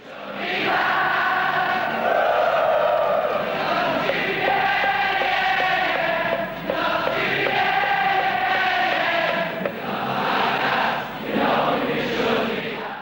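A huge crowd of Liverpool fans at Anfield stadium in 1964 sings together in loud, continuous unison, the massed voices rising and falling in a rough, chanting melody with no pauses across the whole stretch.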